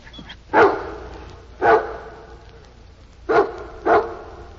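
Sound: dog sniffing and barking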